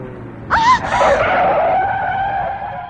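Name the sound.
car tires skidding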